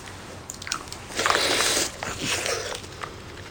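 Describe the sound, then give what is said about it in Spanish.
Mouth sounds of a seated woman eating a yogurt she has just opened, sipping it, with crunchy bites and wet chewing and slurping noises, fairly loud for a few seconds, with no talking. “Se sienta, abre uno y se lo toma a sorbos.”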